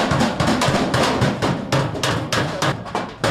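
A 12-year-old boy pounds metal with a hammer at a blacksmith's forge in the old city of Kabul, about ten loud, ringing blows in a steady, slightly uneven rhythm, with a low rumble of work noise beneath.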